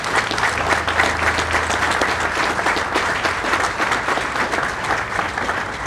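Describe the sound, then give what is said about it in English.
Sustained applause from a large audience for standing veterans of the armed forces, a dense, even wash of many hands clapping at once that holds steady and loud throughout, with no voices standing out. “Let's give them a round of applause today.”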